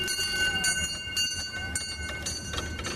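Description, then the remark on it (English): A train engine, recorded in the Berkeley Hills, runs steadily, a dense rumbling roar with sustained high whining tones above it and faint clanks scattered through, loud and unbroken, with no voices. “All aboard! Release the brakes and give the engine a little oil and we'll be off and running.”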